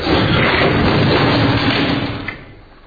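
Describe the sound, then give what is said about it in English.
A heavy dresser is tipped over by people, landing with a loud, rumbling crash and clatter that holds for about two seconds before fading out, with no voices. “Help me tip it. You got a grip? Yeah. 1, 2, 3. Now!”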